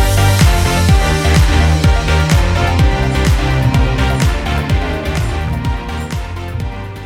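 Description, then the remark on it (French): Loud instrumental opening theme music of the radio show Déshabiller Mots plays on its own, driven by a punchy, regular bass beat under bright, layered melodic instruments, holding a steady, energetic pace throughout with no voices. “Générique.”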